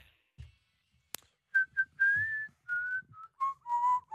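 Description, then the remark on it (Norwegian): Someone whistles a song melody, a run of clear sustained notes that glide and step between pitches, following a short sharp click near the start. “Hvem er det som plystrer på den låta her da?”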